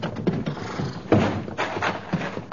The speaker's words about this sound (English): But a lone rider, his Bedouin robes flying, disregarded the surah as he galloped up to the real heart of the city, the Café Bal Oriental, standing in solitary splendor at the foot of the Street of Thieves.